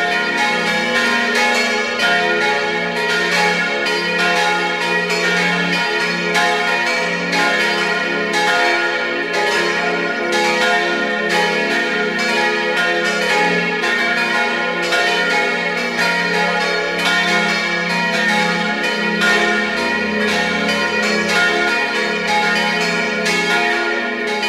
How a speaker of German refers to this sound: Es ist 12 Uhr. Sie hören die Glocken der Kirche zum heiligen Ottmar in Gaisau in Vorarlberg.